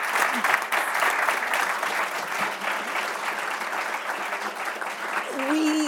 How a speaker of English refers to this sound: So a round of applause for all of our speakers.